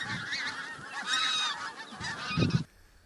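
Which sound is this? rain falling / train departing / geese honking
geese honking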